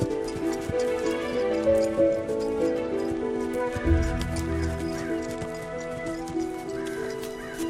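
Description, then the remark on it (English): A horse's hooves clop along at an unhurried walking pace as it is walked through dense trees in the woods, steady, layered over sustained swelling music with a low rumble midway. “Richard gallops into the woods, then walks his mount through the dense trees.”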